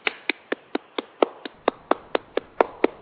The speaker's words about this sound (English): and I'm going to clap for you right now.